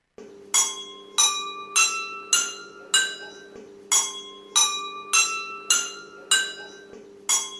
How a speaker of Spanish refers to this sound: Estamos escuchando copas de vidrio que están llenas de agua, con distintas cantidades de agua. Por eso se forman distintas notas musicales cuando golpeamos con una cucharita.